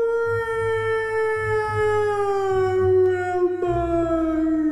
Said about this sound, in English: A distant howl echoed.